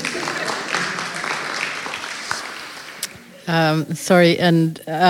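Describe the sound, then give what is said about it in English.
A crowd claps for about three seconds, celebrating a woman's 40th wedding anniversary, a dense patter of many hands that fades, then a woman starts speaking clearly. “To the same man. Second applause.”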